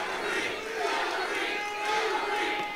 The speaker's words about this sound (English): Clinton took the stage to the cheers of the congregation and said the people in this poverty-stricken, mostly African-American city have been let down by their government.